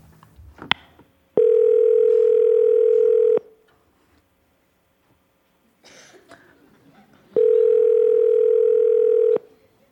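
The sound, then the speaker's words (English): A telephone ringback tone on an outgoing call to someone's mom sounds twice, each steady electronic ring lasting about two seconds with a long silent pause between, loud, with a sharp click at the start and faint murmuring between rings. “Answer the phone.”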